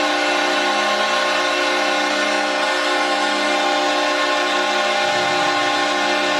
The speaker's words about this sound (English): And that's a long horn for the fans here in the Saddle Dome.